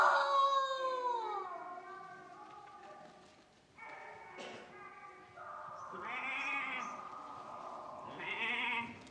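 A goat bleats several times in a row, loud and wavering, with short pauses between the drawn-out, nasal cries.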